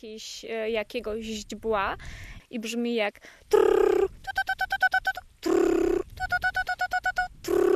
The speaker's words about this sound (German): Das ist ein kleiner, spatzenartiger Vogel.